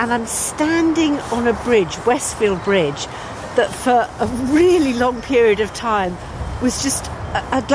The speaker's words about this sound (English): The noise you can hear is the M5 motorway